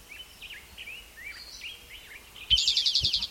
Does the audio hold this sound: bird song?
yes